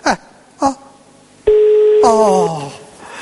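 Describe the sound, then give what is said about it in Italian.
Two short electronic beeps like keypad presses as a telephone number is dialed, followed by a steady sustained phone tone lasting about a second, with a voice talking over its end; the call is to the mayor's office of Naples. “Allora, lo rifaccio, perché non capisco bene.”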